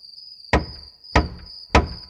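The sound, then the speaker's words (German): Three evenly spaced knocks by Masha on the wooden door of a treehouse in a big tree, each a solid, resonant thud, with a steady high-pitched insect-like hum running underneath throughout. “Sie klopft an die Tür.”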